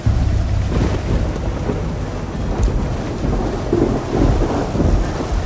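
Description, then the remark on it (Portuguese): Heavy rain pours steadily while deep, rolling thunder rumbles through the low end, swelling in waves over a constant loud hiss. No voices are heard. “E a terrível tempestade continuou.”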